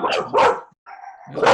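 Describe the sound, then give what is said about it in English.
A dog barks, two quick loud woofs followed by a brief whiny whimper and then a third sharp bark. “Even my dog doesn't like it.”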